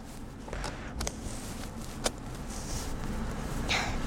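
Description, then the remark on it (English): A car locking with its power windows closing: a few sharp, quick clicks, the loudest near the middle, over a steady low rumble of outdoor background noise. Nobody speaks. “Mum, look, I shut the door. I locked my door. What's it doing?”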